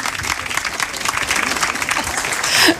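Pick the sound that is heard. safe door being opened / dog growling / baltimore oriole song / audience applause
audience applause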